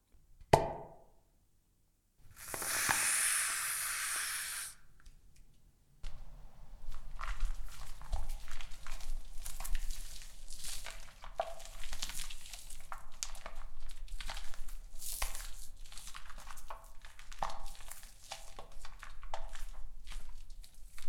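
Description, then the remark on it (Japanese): A store-bought aerosol foam can sprays with a loud, steady hiss for a couple of seconds as foam is applied for shaving, then the foam keeps fizzing and crackling softly, a dense run of tiny pops with no talking. “市販のスプレーになりますので、パチパチ音がしますが、気になさらないでください。”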